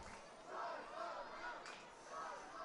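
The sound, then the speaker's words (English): A crowd of camp kids at a baseball game chanting "charge the mound" together in high, rising-and-falling voices, the chant swelling in steady rhythmic waves over a constant hubbub of cheering. “I'm hearing a charge the mound chant from the camp kids that are down the line.”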